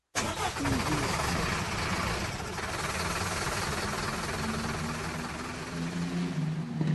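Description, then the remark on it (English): A truck engine cranks and catches, then revs and rumbles steadily as the loaded truck pulls away down a bumpy farm driveway, a loud, continuous mechanical drone with no voices over it. “They loaded up and trundled down the bumpy farm driveway.”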